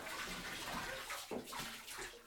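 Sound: bathtub filling with water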